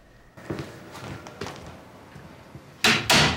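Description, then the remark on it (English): A few soft footsteps thud, then an office door closes with two loud clunks as it swings shut and latches. “He holds open the office door”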